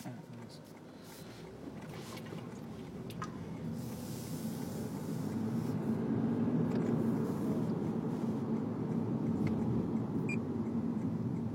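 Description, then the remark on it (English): Steady low rumble of a car on the move, continuous engine and road noise from inside the vehicle, growing slightly louder midway and holding level to the end. “Now here we are. Phone, driving a car.”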